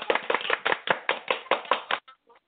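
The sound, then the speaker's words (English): A quick run of about a dozen sharp hand claps in a steady rhythm, fairly loud, then stopping abruptly with a faint trailing sound afterward, given in praise of a good point on the live show PNP Talk to the Twins. “Got to give you a hand clap for that.”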